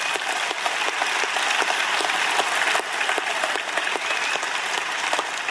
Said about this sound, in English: yeah, go ahead. We can clap for that. Yeah.